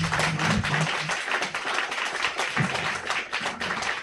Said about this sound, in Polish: Wielkie brawa, dr Leszek Sykulski.